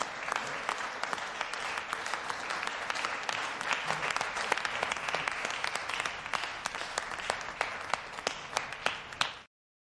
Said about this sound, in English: The Holy Column would like to clap for you, so let me get them all rounded up. Inmates, golf clap, golf clap.